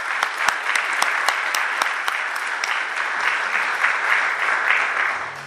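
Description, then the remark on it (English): A crowd applauds judges for their service, a dense wash of many hands clapping with a few sharp individual claps standing out early on, holding a fairly even loudness throughout before easing slightly at the end. “You've already been given a round of applause, but I'm going to ask everybody to give them another round of applause for their service.”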